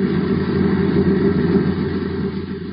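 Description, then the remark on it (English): Aircraft engines that have not been working well, one of them sounding rough, drone loudly in a continuous low roar, the level wavering slightly as they run, with no voices present. “One engine looks all right, but it doesn't sound so good. For the past few days, the engines haven't been working so well.”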